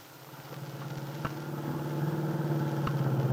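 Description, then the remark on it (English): A car engine hums steadily while the car is driven toward the Lane Farm on Willow Road on a Sunday afternoon, a low continuous drone that rises slightly in pitch, with a couple of brief clicks or bumps along the way. No one speaks. “Del Shipley, with Aunt Mary on the seat beside her, is driving her car toward the Lane Farm on Willow Road.”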